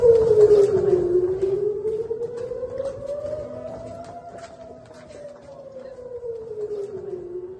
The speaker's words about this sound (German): Es ist 22 Uhr. Ich sitze wieder im Bunkerraum, weil gerade die Sirenen losgingen und ich habe auch gerade gehört, wie das Raketenabwehrsystem der Iron Dome zwei Raketen abgefangen hat.